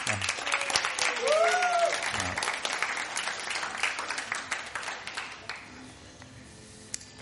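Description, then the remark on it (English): An audience claps for a woman, steadily, the dense applause loud at first and then thinning out and fading over several seconds, with a brief cheer or whistle rising early on. “Yeah, give her a clap.”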